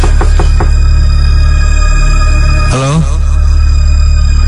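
Four quick, sharp knocks on a bedroom door come in a short burst at the start, over a loud, steady electrical hum that continues after the knocking stops.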